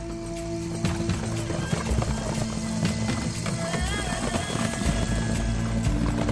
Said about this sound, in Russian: Услышала девушка позади конский топот и говорит: «Снова за нами слуги шайтана гонятся».